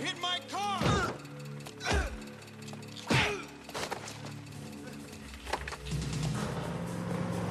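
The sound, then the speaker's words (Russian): Heavy thuds strike a car's body, four or five loud impacts spaced irregularly over several seconds, with a short vocal grunt near the start and a low rumbling background. “Ты стукнул мою машину!”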